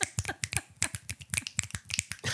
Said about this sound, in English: I don't even think we need to clap this week. This week we're gonna snap like we had a poetry club.